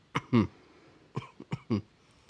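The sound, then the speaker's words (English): Two pairs of short, deliberate coughs, each a quick hack followed by a fuller, throaty one, with a brief pause between the pairs. A person is exaggerating the coughs, faking being sick as when calling in sick to work, with no talking. “It's a kind of cough that you do when you call into work sick, right?”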